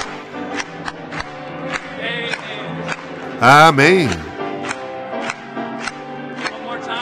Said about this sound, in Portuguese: Vamos bater palmas.